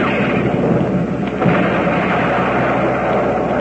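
A loud, sustained roar of gunfire like a heavy cannon blast, rumbling steadily with no clear separate shots and no voices, used as a sound effect for Quaker Puffed Wheat and Puffed Rice cereals 'shot from guns'.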